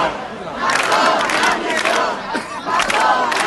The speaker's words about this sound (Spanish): Un grupo de familiares de las víctimas de la Dana se concentraron para pedir la dimisión del presidente valenciano.